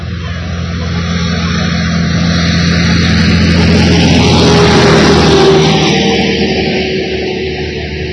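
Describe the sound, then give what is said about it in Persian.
A family's car drives steadily along a road on a summer trip, its engine humming and tires rumbling continuously, swelling slightly louder midway, with no voices. “توی یه روز زیبای تابستونی، هدا خانم قصه ما همراه خانواده داشتن به مسافرت می رفتن.”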